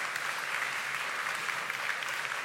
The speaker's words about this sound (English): I mean, we just have to give it, you know, just a little clap for that. I mean, it's amazing.